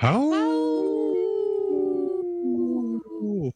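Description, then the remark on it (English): A person imitates a wolf howl: one long, loud vocal howl that swoops up, holds a steady wavering tone, then breaks and slides downward at the end. “That was a good howl.”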